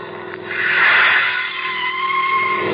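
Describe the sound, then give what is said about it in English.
A car's tires screech in a long, harsh skid as a front tire blows out after running through broken glass, over a steady engine rumble, the squeal swelling loudest early on and then holding, with no voices. “Looks like we've blown a front tire.”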